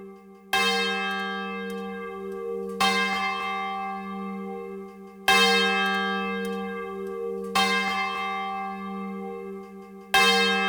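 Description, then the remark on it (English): A large swinging church bell, used as a traditional call to worship, tolls with a rich, sustained ring, striking five times in a steady swinging rhythm, each loud clang blooming over the lingering hum of the last. “The unmatched realism of a swinging bell provides the community with a traditional call to worship.”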